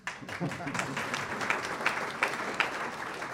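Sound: applause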